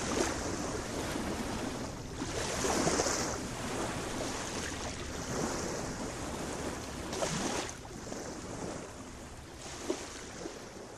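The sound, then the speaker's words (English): Steady rushing water of the Milwaukee River at the north end of Esterbrook Park in Milwaukee, with gusts of wind buffeting the microphone in broad surges every few seconds. No one speaks. “We are standing on the Milwaukee River at the north end of the Esterbrook Park.”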